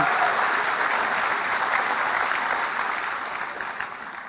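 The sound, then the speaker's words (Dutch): A church audience at an evening baptism service applauds four new members steadily, a dense wash of many hands clapping at a fairly even level before gradually thinning and fading toward the end. No one speaks over it. “Geef ook hun even applaus.”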